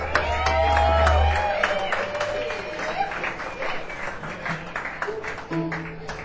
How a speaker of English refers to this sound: Ladies and gentlemen, let's give a big round of applause for the ….